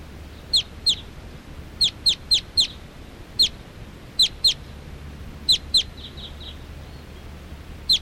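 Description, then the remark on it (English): Wild birds, which look like all females, coming in and perching in a big tall tree, calling in short, sharp, high-pitched chirps. About a dozen calls come in irregular pairs and small bursts over a faint low background hum, with no voices. “Wild birds are coming in.”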